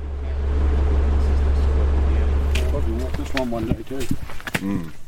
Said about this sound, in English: We hop back in the ute and make the 5-minute drive up the hill to the start of the Wires track over to Wentworth